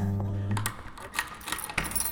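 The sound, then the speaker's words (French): Metal keys jangle and clink together on a ring, a series of bright, irregular rattles over about two seconds, after a brief low hum at the start. “Porte-clé ou pas?”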